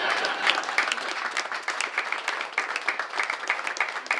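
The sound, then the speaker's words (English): Sustained applause from a crowd, a dense wash of many overlapping claps at a steady, fairly loud level for the whole stretch, with no voices standing out. “So, ladies and gentlemen, go ahead, you can clap for that.”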